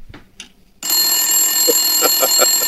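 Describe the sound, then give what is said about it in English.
A loud, sustained electric bell rings continuously with a bright metallic clatter, sounding as the time-up signal in a quiz after a countdown, starting abruptly after a brief moment of faint sounds, while a few voice-like bursts come through underneath. “No, we've got to have the buzzer. It's only 4 seconds.”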